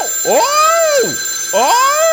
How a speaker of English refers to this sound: I don't like it when that phone rings.